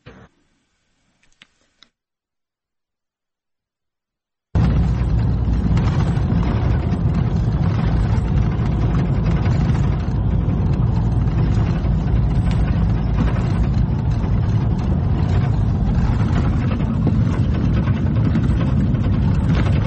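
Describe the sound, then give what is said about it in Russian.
After a few seconds of silence, the steady low rumble of car engines idling sets in and holds, continuous and fairly loud, like a line of vehicles waiting with motors running in a queue for petrol at a filling station in occupied territory. “Это очереди за бензином. Давайте посмотрим, как они сейчас выглядят.”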